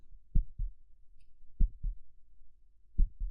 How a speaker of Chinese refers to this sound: 你的心跳得好快呀